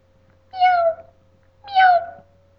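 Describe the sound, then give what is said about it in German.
A cat meows twice, each call a drawn-out, falling mew under a second long, separated by a short pause, over a faint steady hum. “Nein, ich bin die Katze.”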